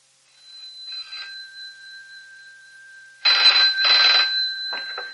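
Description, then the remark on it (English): A telephone rings with a faint early trill, then two loud bell bursts in quick succession, followed by a few shorter rattles, over a steady high electronic whine. “I phoned you as soon as I could.”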